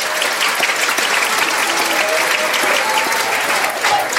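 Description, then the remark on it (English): Sustained applause from a sizable crowd, a dense wash of clapping at steady loudness that fills the whole stretch without pause, with faint scattered cheers mixed in and no talking. “put a little applause in here if you can.”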